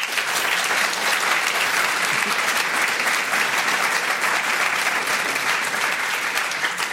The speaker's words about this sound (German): Wir sind in Luzern im Art Deco Hotel Montana. Und ein Applaus meine beiden Gäste, Sita Matsunder und Ludwig Wicki.